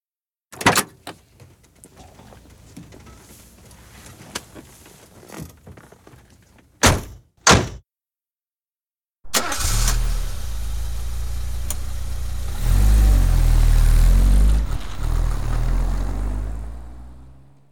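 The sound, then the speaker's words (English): A car door thuds shut as a family gets into the car with a picnic, followed a few seconds later by two more quick slams. After a short pause an engine turns over and settles into a steady rumble, revving louder before gradually fading. “Get in the car, everybody. Let's go.”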